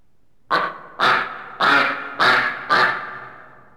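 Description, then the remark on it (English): A duck quacks five times in a quick, fairly even series, each call a loud, nasal burst, with no voices around it. “Quack.”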